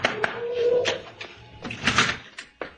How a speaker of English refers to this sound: Oh, here's Sanchez's house. Here, let me knock. What's the matter? Don't I know how to beat on the door? No one's answered, have they?